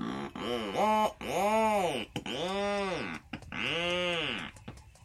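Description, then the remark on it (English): A rhinoceros auklet calling in several long, loud, groaning wails, each rising and falling in pitch with a harsh, buzzy, engine-like texture, separated by brief pauses. “If it sounds like a weed whacker, it's a rhinoceros auklet.”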